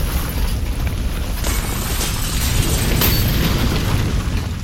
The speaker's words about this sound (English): The massive concussion spreads over the BASF plant like rolling thunder, instantly turning factory buildings to rubble as it rockets towards the village.